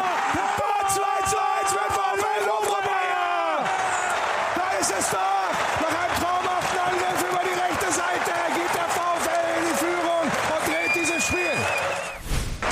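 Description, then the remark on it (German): A football crowd at the Volkswagen Arena, all standing, claps and cheers in a loud, continuous roar, with massed voices chanting and sustained shouts rising over the clapping, before the noise briefly dips right at the end. “Klatschen, alle stehen, ja.”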